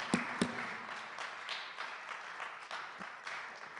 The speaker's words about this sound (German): Ja, da kann man klatschen.